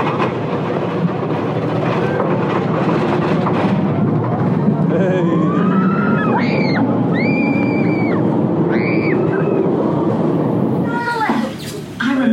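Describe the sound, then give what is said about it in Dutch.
A roller coaster train rumbles steadily along its track on the second lift hill, with rising, wavering metallic squeals and whines cutting through midway. People talk over the continuous clatter, and a brief shout comes near the end. “Nou, we zitten op dit moment op de tweede lifthill.”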